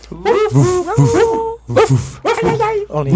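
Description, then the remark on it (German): Several people mimic dogs with their voices to say goodbye, trading playful yaps, barks and whiny whimpers in quick, overlapping bursts, loud, with short pauses between rounds. “Und ehrlich gesagt, finde ich, sollten wir jetzt es unserem Gast gleich tun und nur mit Hundegeräuschen Tschüss sagen.”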